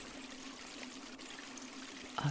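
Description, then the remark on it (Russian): Heavy rain lashes against windows in a steady, unbroken wash of hissing noise with a low hum beneath it, holding an even level before a short louder burst at the very end. “Ах, это не что иное, как дождь, который хлещет в окна. Идет сильный дождь, вот и все.”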